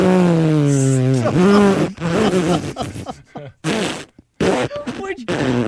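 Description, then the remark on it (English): A voice imitates the long, drawn-out fart of a horse called Bus, a loud buzzing, sliding tone that sputters and breaks up into choppy bursts before trailing off. “Have you ever heard a horse fart?”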